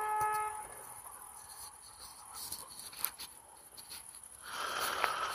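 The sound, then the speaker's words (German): A car horn honks once at the very start, a short steady tone lasting under a second, followed by muffled street noise with scattered clicks and rustling and no further honks. “Weiß nicht, vielleicht spielt sich hier gleich ein Drama ab, weil ich dem Schwachkopf erzählen muss, dass eine Hupe für Gefahrensituationen da sind und nicht um andere Leute zu nerven.”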